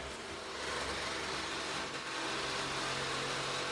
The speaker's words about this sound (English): That's Punk of the Electric Crush, who is sawing through our wall even as we speak.